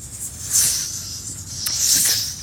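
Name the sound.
snake hissing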